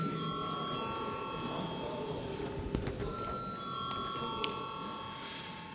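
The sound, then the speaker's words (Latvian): A parliament chamber bell rings continuously for several seconds before a vote, a steady, shrill electric tone sounding over a low murmur of room noise. “Paldies, lūdzu zvanu.”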